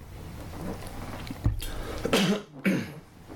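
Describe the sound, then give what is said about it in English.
Someone clears their throat in a few rough, harsh bursts, a short one followed by two stronger rasps, with no talking around them, as a speaker pauses while teaching from the Bible. “Excuse me, let me get that. Sit to clear my throat here.”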